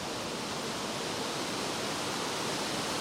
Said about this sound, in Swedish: Så när du hör ju här nu blåser det fint här.